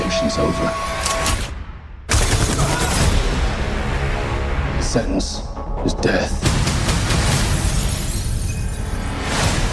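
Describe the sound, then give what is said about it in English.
Loud, chaotic gunfire effects fill the scene, with rapid bursts and sharp cracks piling over a dense, crashing roar that barely lets up, and voices seem to sit underneath. “Fire! Judgment time. Let's finish this.”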